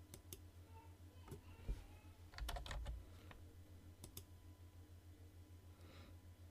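Irregular bursts of keyboard typing as a credit card (Dankort) number is entered to start a free trial, sharp clicky keystrokes in quick clusters separated by short pauses, moderately quiet over a low steady hum, with no one speaking.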